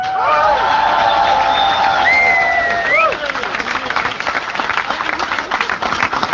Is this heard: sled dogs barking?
no